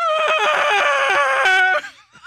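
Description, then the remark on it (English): A person vocally imitates a dog's human-like scream: a loud, strained, wavering high-pitched wail held for nearly two seconds, breaking off into a brief trailing whimper. “my dog gets so upset and filled with shame that the other dog doesn't want to play with him that he screams out like a human.”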